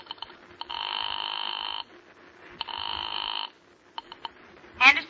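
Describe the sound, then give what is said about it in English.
A telephone is dialed to a familiar number with a few quick clicks, then rings twice in long, buzzing bursts separated by a pause, followed by more faint clicks and a brief rising chirp at the end. “Your hand is shaking as you pick up the phone and dial a familiar number.”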